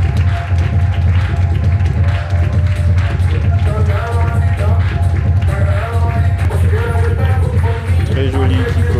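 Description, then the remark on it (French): An audience at a fashion show applauds steadily over loud music with a strong bass pulse as the models come out, the dense clapping continuing without a break for the whole stretch. “Et les applaudissements du public.”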